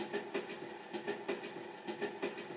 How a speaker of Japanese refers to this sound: あんた毎日こんな電車に乗ってるのかい？大変だね。